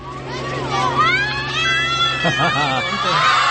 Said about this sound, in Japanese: この日はコンバインが学校にやってきて、刈った稲を脱穀して、脱穀したそのお米を袋に入れるところが子どもたちも見れると、ここが一番歓声が上がるとおっしゃったのです。ではいざその瞬間をお聞きください。